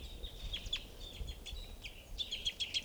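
bird, single bird calling

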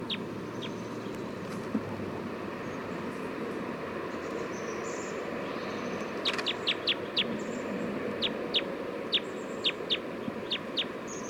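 bird, bird calls

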